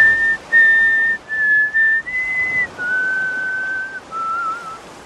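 In a clip, a man trying to escape England is caught by several pursuers and thrown to the ground. He whistles a short, clear melody from Land of Hope and Glory: several sustained notes, each held briefly before stepping down in pitch, fairly loud, with no talking.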